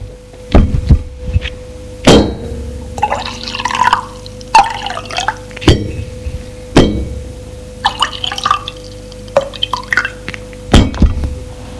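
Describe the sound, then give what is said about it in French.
Bourbon gurgles in short bursts as it is poured into glasses, broken up by several sharp, bright clinks of glass being set down or touched. No one speaks. “Où se trouvent des verres et une carasse de vin. Jules serre et dit, c'est du bourbon.”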